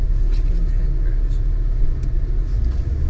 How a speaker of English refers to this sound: And so we're in annoying stop and go traffic. Passing the beautiful old homes of Brookside.